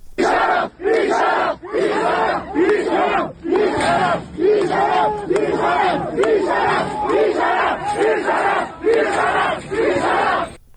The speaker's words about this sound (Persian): تصاویر منتشر شده نشون میده که دانشجویان در محوطه بیرونی دانشگاه تجمع کردند و در مقابل در ورودی دانشگاه هم حضور نیروهای لباس شخصی مشهوده که شبیه یک نوع درگیری هم پیش اومده. صدای این اعتراض‌ها و این درگیری رو میتونیم بشنویم.